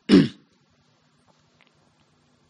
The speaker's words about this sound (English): I do apologize for my voice today. I have a bit of a cough, so I'm clearing my throat a lot.